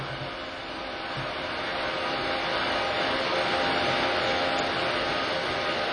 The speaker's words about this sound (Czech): Tady jsme ve třetím podzemí pod restaurační budovou Temosu. Máme tu část technického zařízení Národního divadla. Klimatizaci, elektřinu, teplo, náhradní zdroje.